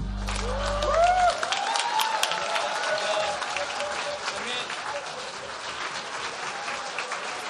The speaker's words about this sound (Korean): 다시 한번 뜨거운 박수 부탁드릴게요.